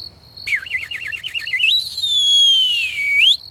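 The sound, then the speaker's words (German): A soft whistled signal on its own, a robbers' whistle given by three robbers at a window above: a quick warbling trill, then one long high note that glides slowly downward and rises sharply again at the end. “Die drei Räuber haben oben am Fenster plötzlich einen leisligen Pfiff von sich gegeben.”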